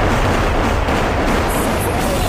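A loud, deep crash of thunder from a lightning strike over a cemetery under dark clouds, rumbling on steadily for a couple of seconds, heavy in the low end, with no voices.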